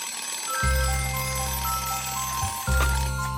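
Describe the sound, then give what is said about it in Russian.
An alarm clock rings in two loud, steady bursts with a brief pause between them, waking the bear in his snow-covered den at New Year in the cartoon series Masha and the Bear. The tone is low and buzzing with no voices. “Звенит будильник, медведь просыпается, смотрит на часы и видит 12 часов Новый год.”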